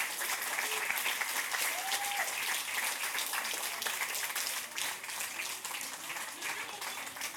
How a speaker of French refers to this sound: Merci. On peut applaudir Fred Flamme au son et à la technique et à la lumière.